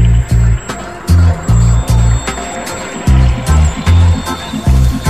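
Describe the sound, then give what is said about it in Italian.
A deep, pulsing bassline thumps in a steady rhythm, with watery splashing and liquid swirls blended into the mix, loud. “Che poi l'acqua mescolata con la baseline da questo senso che è un po' il rabadab di nuotare, no?”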